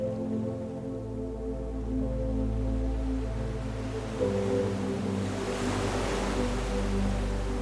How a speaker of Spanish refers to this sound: te enseña a escuchar y a sentir el ritmo del océano.